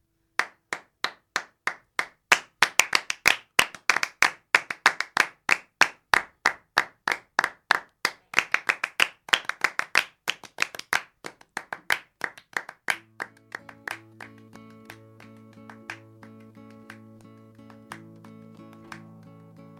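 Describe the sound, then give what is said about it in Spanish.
Steady, rhythmic hand clapping, sharp and evenly spaced, dozens of claps in a regular beat, played once as a demonstration of the clapping pattern for listeners to join; after about thirteen seconds music with sustained tones comes in beneath the continuing claps. “Sí, ¿cómo es el aplauso?”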